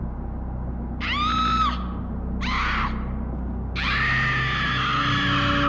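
A woman screams loudly three times, short sharp cries followed by a longer sustained shriek, close and piercing over a steady low rumble like a moving car.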